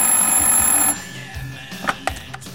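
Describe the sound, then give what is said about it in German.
A telephone bell rings loudly and steadily for about a second in an apartment in the evening, then cuts off abruptly, followed by a few quiet clicks and knocks. “Plötzlich klingelte das Telefon.”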